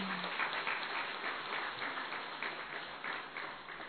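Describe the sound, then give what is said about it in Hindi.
A crowd at Madhuban applauds steadily when asked to clap, many hands clapping in a dense, continuous wash that holds fairly loud throughout before easing slightly at the end. “ताली तो बजाओ जरा।”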